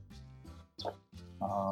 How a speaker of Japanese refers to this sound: うん、ちょっと後ろの鳥になんか言いたいことあるみたいな、ちょっと聞いてもらえます？意見。何が言ってるんですかね、彼は。